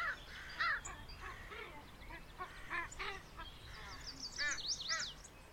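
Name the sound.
crow cawing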